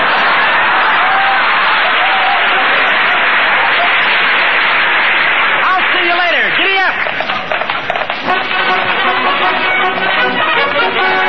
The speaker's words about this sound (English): Here, here, what's all the kids are clapping?